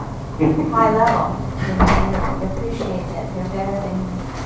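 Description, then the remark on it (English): A single wooden thump of a door or drawer opening or closing lands partway through, amid a person talking indistinctly. “Sorry, I didn't know if there was a hidden door.”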